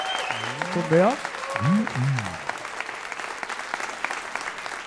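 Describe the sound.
A steady patter of audience applause fills the whole clip, with excited voices calling and whooping over the clapping during the first half before it continues on its own.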